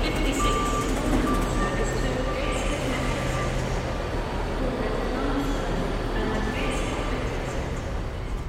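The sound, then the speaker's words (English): Steady street traffic rumbles while a truck's reversing alarm beeps repeatedly over the din, with indistinct voices of shoppers in the background, on the streets of Newcastle on the climb up to St. James's Park. “The traffic, the shoppers, the wheeze of our breath, the shuffle of our feet, the clatter, the thud in our eardrums as we climb our hill.”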